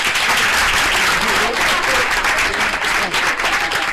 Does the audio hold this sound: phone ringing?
no